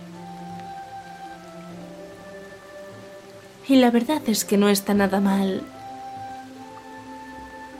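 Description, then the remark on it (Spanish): Steady rain falls throughout as a soft, even hiss with a low background hum, while a voice speaks briefly in the middle over the continuous rainfall. “Contemplas la lluvia cayendo.”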